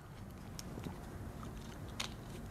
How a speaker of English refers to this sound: Sorry, I'm capping the water.